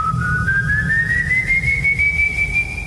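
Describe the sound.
A person in a canoe whistles one long, sustained note that slowly glides upward in pitch, clear, over a steady low background rumble.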